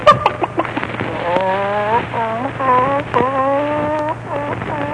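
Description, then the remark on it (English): A hen clucks in a busy run of short, warbling calls and a few longer drawn-out squawks, steady and fairly loud over a low background hum. “Here's your little hen.”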